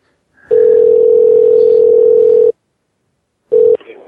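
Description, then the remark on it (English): A telephone dial tone after a hang-up: a loud, steady, mid-pitched hum that holds for about two seconds, stops for a second, then starts again briefly. No one speaks. “Sorry, I was trying to get it in before she hung up.”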